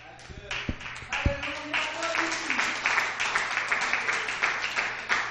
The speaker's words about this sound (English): Can we clap unto Him today?